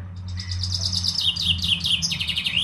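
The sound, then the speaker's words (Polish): A male Eurasian blackbird sings a leisurely, warbling song of clear fluty phrases, steady throughout, with another male blackbird in the background, over a faint low background hum. “Kos, zdecydowanie. A w tle jeszcze jest inny samiec.”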